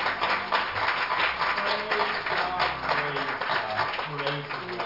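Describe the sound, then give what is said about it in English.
An audience gives a hand clap of praise after a prayer, clapping steadily for about five seconds, a dense, continuous patter of many hands, with voices calling out and murmuring underneath. “Let's give it all a hand clap for praise.”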